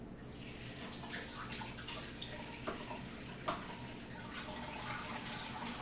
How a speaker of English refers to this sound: And then I gotta add the molasses, and the container is stuck because molasses is sticky. And if you don't wash off, the top, when you put it back on, it will stick. Oh god. I'm gonna have to try and run it under hot water.